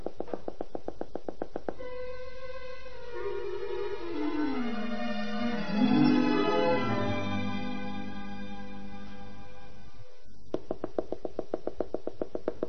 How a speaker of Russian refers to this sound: Кто там стучит?